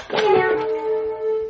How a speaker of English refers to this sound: All right, guys, for show and tell, I brought my cat piano. It makes cat noises. And I even wrote a song.